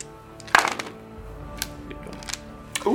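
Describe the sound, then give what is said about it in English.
Two small dice clatter across a hard surface, a quick burst of sharp clicks followed by a few scattered taps as they settle, with no talking. “This seems like 2 little dice.”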